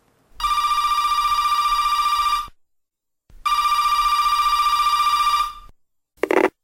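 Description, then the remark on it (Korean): A telephone rings in two long, steady bursts with a pause between, loud, followed by the start of a third ring that cuts off abruptly. “그때 전화벨이 울렸다.”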